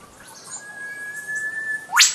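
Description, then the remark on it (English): A whipbird call recorded in Warragul, Victoria: a long, thin whistle held on one steady pitch, then a sudden, loud whip-crack sweep shooting sharply upward, with faint birdsong in the background. “Sometimes the whipbird doesn't stand out quite so strongly as this one from Jason from Warragul in Victoria.”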